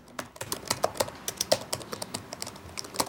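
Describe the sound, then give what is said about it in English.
Steady typing of an email on a laptop keyboard in an office: a quick, slightly uneven run of light clicks and taps, about a dozen keystrokes, with no voices. “He switches on his desk lamp with a smile, then returns his attention to an email he's writing on his laptop.”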